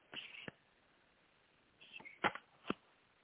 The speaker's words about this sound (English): Okay, I'm going to just shuffle the cards here really quick. Okay.